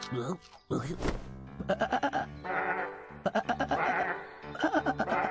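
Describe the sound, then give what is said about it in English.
Sheep bleat repeatedly and loudly, a series of wavering, quavering cries overlapping one another with brief gaps between calls. “It's just the sheep giving us our woolly wake-up call.”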